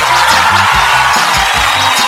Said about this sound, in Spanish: Aplauso grabado para este.